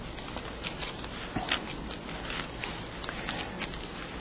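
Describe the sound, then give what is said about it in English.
Many Bible pages turn and rustle at once as people look up Romans chapter 8, a steady papery shuffle broken by brief crisp flicks and snaps. Nobody speaks; the rustling fills the whole stretch at a moderate level. “The sound of pages turning in your Bibles.”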